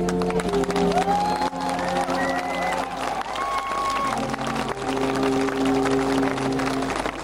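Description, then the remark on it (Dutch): Steady, dense applause from a large concert audience lasts the whole stretch, with a few low, sustained alphorn tones and sliding notes faintly audible beneath the clapping. “het publiek geeft al sinds Obama volledig gelijk, want ze blijven maar applaudisseren, waardoor wij ook niets kunnen verstaan of kunnen horen van het stuk natuurlijk, maar het was een goed stuk volgens u.”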